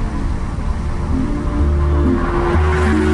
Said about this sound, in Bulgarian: Една кола.